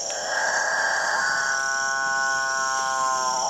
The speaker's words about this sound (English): apparently irresistible noise attracts the female capuchin birds, which jostle each other ruthlessly in the quest to get close to the studliest of the displaying males. That alpha male with the best singing technique will be the only one to mate.